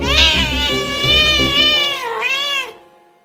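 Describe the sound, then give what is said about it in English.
A cat lets out a long, drawn-out meow, loud, wavering in pitch and swelling again near the end before cutting off. No one speaks. “Cats can be very vocal creatures. But the exact meaning and intention behind these sounds can often be hard to read.”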